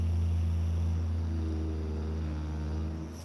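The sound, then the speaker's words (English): A vibrator buzzes with a steady, low motorized hum and layered overtones, running continuously on its own for about three seconds before easing off slightly at the end. “Is it the same noise? Because this is what my vibrator sounds like.”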